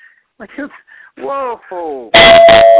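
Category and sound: sound effect, bell ring sound effect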